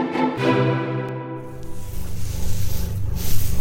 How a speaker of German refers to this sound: Na, wisst ihr, was das für ein Geräusch aus unserem Schulhaus ist? Das sind Mäuse. Mäuse! Doch keine Angst, die Mäuse laufen nicht frei in der BBS herum, sondern sie befinden sich in unseren Terrarien im Schulzoo.